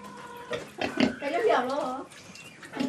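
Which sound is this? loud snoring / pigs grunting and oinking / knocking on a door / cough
pigs grunting and oinking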